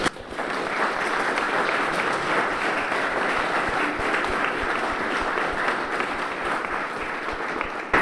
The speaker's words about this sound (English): This undoubtedly has been a real team effort, and I think we ought to give them all a round of applause too.